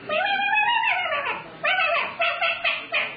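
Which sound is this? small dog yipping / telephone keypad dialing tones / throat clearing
small dog yipping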